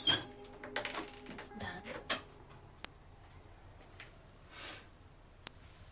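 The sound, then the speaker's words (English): A door with a window covered by blinds opens with a burst of latch clicks and rattling, followed by a couple of sharp isolated ticks and a soft brushing whoosh in otherwise quiet surroundings. “Dan's shadow waves a hand on the other side of the blinds on the window, and Isabel opens the door.”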